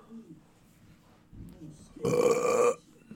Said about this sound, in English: Oh, I'm burping up salsa. It's so gross.